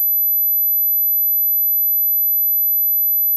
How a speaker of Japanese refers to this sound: 次は1万 2000Hz です。どうぞ。